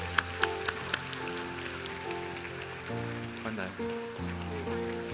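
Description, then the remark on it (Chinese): An audience applauds steadily in a dense, continuous wash of clapping, given to God in a Christian service, while sustained keyboard chords play underneath, with a few sharper claps standing out at the start. “继续帮我们最大的掌声给我们的神。”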